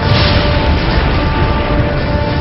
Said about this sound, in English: After centuries roaming the plains, they're wild and easily spooked. Teddy Blue hears what every cowboy dreads. Stampede.